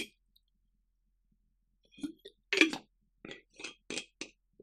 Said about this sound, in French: Oui, j'étais en train de dire, je prends une gorgée de Play Endurance, ça va m'aider à me souvenir.